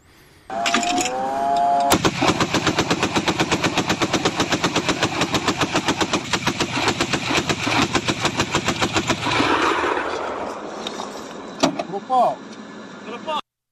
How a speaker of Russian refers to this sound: Сбивают, судя по звуку, зенитной пушкой. Всего вот за 3 ночи, которые прошли перед эфиром, с пятницы над Украиной были сбиты 62 дрона «Шахед».